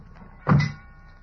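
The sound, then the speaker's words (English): A single heavy truck door slams shut with a solid, low thud that dies away quickly against a faint background hum. “Slam the doors.”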